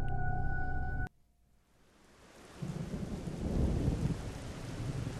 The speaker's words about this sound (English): It was a cold and rainy night.